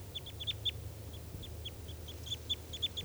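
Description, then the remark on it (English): Three crossbills call in quick, high-pitched chirps as they head towards a net and settle near it, short notes repeating in irregular bursts over a steady low hum, with no one speaking. “Here come the three birds, and they're going towards the net.”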